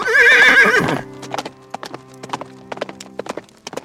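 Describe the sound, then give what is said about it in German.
A loud braying cry opens, then a donkey's hooves clip-clop in a steady, uneven walking rhythm as it is ridden, fairly crisp, with a low hum underneath. “Josef riet ihr, einfach wieder auf dem Esel zu reiten.”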